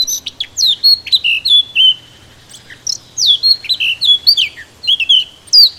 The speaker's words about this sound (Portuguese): Esta melodia faz parte da banda sonora de muitos bosques e jardins. É a Toti Negra de Barrete. O seu canto começa com um chilreio hesitante, mas depressa se torna aflautado e melodioso.